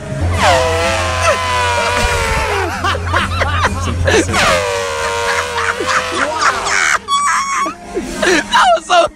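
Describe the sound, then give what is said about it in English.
A person vocally imitates an elephant mating call: two long, loud, strained trumpeting blasts with wavering pitch, followed by rough sputtering bursts and a hint of snickering. “What would the animal's mating call sound like? So the elephant.”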